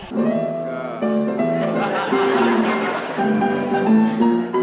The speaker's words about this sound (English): Here's the theme music. And away we go!